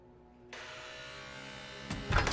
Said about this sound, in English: Son, just pull the door when it buzzes.